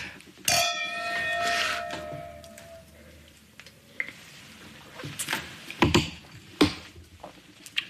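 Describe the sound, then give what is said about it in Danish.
Glasses of white wine clink together once in a toast, giving off a bright, ringing tone that slowly fades over a couple of seconds. A few sharper taps and knocks follow, with faint voices in the background. “Skål! Ja, skål!”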